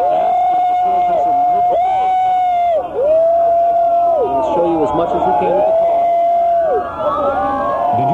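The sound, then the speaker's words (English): A crowd of people shouting and yelling over one another, loud and continuous, while an emergency siren wails up and down in repeating sweeps throughout, as police cars with emergency lights follow the car in the O.J. police pursuit. “There it is with the emergency lights on, and you hear people shouting.”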